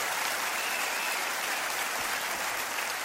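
A crowd claps steadily and loudly for the full three seconds, a dense, even wash of applause with no voices standing out.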